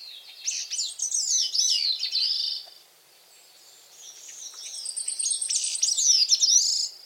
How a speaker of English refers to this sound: Yet each year, this little songbird makes the long journey from the Caribbean islands to the forests of the northeastern coasts of North America to make a call that a few of us may be lucky enough to hear in person.